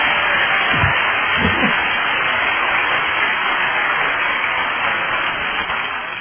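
A round of applause from a crowd, a dense, steady wash of clapping that holds evenly for several seconds before easing off slightly at the end, with no one speaking.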